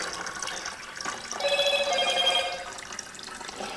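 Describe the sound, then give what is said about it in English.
A phone's message notification chime rings out clearly for about a second, a bright electronic tone over steady running water and liquid sounds as darkroom chemicals are mixed, with no one talking. “I might have to see what messages I'm getting sent.”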